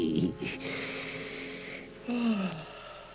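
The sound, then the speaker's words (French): A cartoonish snore: a short raspy snort, then a long wheezy drawn-in breath, followed by a whistling exhale that slides downward in pitch. No one speaks. “Oh, ma parole, mais j'ai dormi.”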